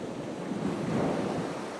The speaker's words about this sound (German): Ich gehe im Wellenbereich barfuß den Strand entlang. Einmal mehr, einmal weniger spülen die Wellen an den Strand und kühlen meine Füße und Unterbeine.